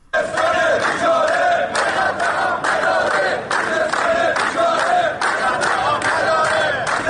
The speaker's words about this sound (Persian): کارگران کارخانه نیشکر هفت‌تپه امروز در ششمین روز اعتصاب خود در محوطه آن شرکت راهپیمایی کردند. آنها در این راهپیمایی در اعتراض به وضعیت معیشتی خود و همچنین مشکل کم آبی در استان خوزستان شعار دادند.